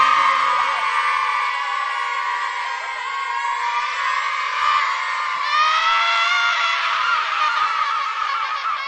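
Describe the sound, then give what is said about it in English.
A team of young voices cheers and screams loudly and continuously after a count of three, a dense, high-pitched roar of excited shouting that holds steady from start to finish, energetic. “Because we're Square United and you're going to hear us roar louder, louder than a lion, because we're Square United and you're going to hear us roar. Big cheer. One, two, three. Yeah!”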